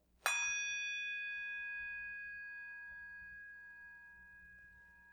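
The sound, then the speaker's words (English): A bell is struck once, and its bright, clear tone rings on, fading slowly over about five seconds. No one speaks. “And we ring a bell and hear that bell in solidarity with all those who have suffered that violence.”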